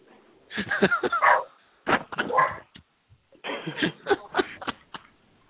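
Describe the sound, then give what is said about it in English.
Dogs bark and whimper in three short clusters of yelps and whines, with brief pauses in between. The noise is moderately loud, muffled and thin-toned, and no one talks over it. “I hear dogs.”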